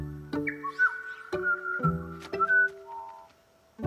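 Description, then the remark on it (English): A bright, whistly bird chirp slides and trills over a few plucked musical notes, clear, with no one talking. “Why did the bird give us a gift?”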